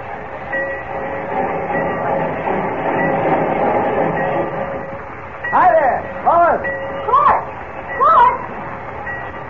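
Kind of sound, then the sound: vehicle, train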